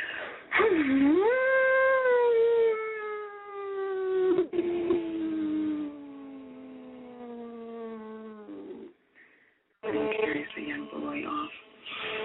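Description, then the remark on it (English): A long, wavering howl like wind, sounding like a voice imitating it: it swoops up, then slides slowly downward for about eight seconds before breaking off into a rougher, breathy gust. “Let the wind carry you through.”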